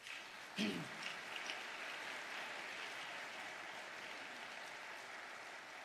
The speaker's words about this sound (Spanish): Den un fuerte aplauso a Cristo.